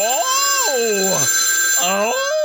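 A telephone rings loud, a steady electronic tone with warbling, gliding pitches that rise and fall across the whole short stretch without pause.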